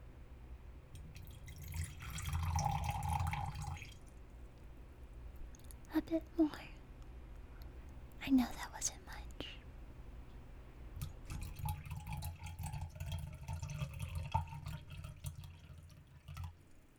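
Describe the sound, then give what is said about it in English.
Homemade liquid is poured into a cup: a short gurgling pour, a few scattered drips, then a longer, steadier pour that keeps trickling to the end. “I'll pour and you tell me when to stop.”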